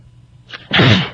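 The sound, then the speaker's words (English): A single loud sneeze: a brief sharp intake of breath followed by an explosive burst that lingers for a moment before fading. “Nor can I stop sneezing.”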